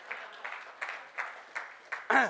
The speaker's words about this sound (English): Thank you very much, brother. It's good to see you. Round of applause.